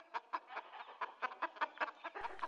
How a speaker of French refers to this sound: Les poules se trouvaient dans des petites cages superposées les unes par rapport aux autres. Toutes les poules caquetaient en même temps, ce qui était assourdissant.